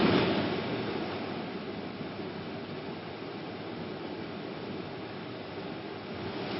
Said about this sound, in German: Da ist einfach dieses Geräusch drauf von dieser Klimaanlage.